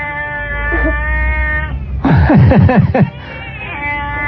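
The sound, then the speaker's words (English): A cat named Timmy, urged to sing, yowls and caterwauls in loud, wavering cries, rising and falling in a burst of strained meows over a steady low hum, then trailing off. “Is that a cat?”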